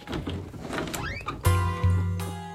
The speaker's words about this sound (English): A secret door.